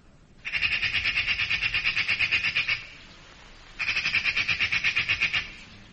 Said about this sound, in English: My answering service here says it's a magpie.